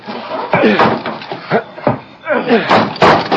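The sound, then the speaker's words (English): A locked cabin door is forced open with heavy, irregular thumps and cracks in a Lone Ranger radio drama, mixed with overlapping voices talking throughout. “The door is locked. Come on.”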